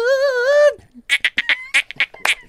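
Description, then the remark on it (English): A voice imitates a singer's voice climbing higher and higher until it turns into a dolphin: a sustained, slightly wavering nasal tone, then a quick run of about eight shrill, squeaky chirps in a choppy rhythm. “And I said, eventually, it just like went into a dolphin.”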